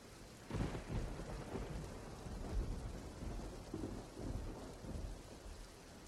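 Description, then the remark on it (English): Steady rain hisses across the whole clip while low thunder rumbles and rolls through it, swelling in a few heavy surges, full, with no voices. “The rain always made me miserable.”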